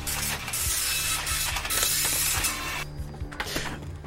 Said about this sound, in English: It's still printing. So. It's quite a slow printer as well, actually. Yeah, it's a slow printer.